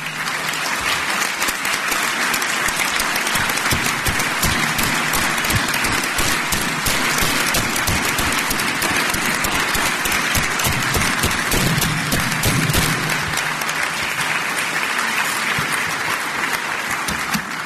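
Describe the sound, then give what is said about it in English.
Sustained applause from a large audience thanking people who work in the criminal justice system, a dense wash of many hands clapping that holds at a steady loud level for the whole stretch without letting up. “So anybody that works in the criminal justice system, investigators, prosecutors, support staff, I'd ask you to stand up and allow us to thank you for your service with our applause.”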